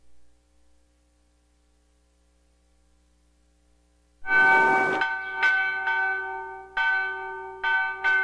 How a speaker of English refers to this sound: Every day at noon, Mordecai Vanunu takes great pleasure in ringing the bells at St. George's Anglican Cathedral in East Jerusalem.